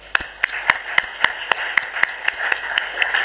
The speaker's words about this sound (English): I think we can applaud the whole team.